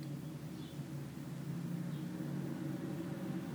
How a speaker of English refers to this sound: The movement of a car.